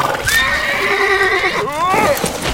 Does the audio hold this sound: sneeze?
no